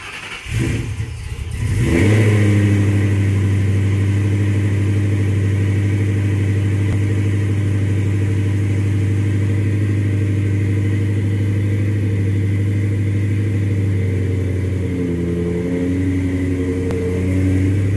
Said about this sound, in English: But yeah, a tick, tick, tick, tick. There's a video I actually have. One of the last times the engine was running before I pulled it and rebuilt it, of it ticking right by the exhaust because I hadn't uncorked it right past the headers.